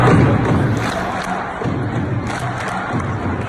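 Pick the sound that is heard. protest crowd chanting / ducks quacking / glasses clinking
protest crowd chanting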